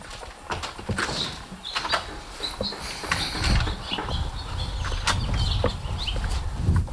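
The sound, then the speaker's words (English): Outdoor ambience with birds chirping and twittering over steady background rumble and occasional clattering knocks; no one speaks. “Maybe go outside and listen to the birds.”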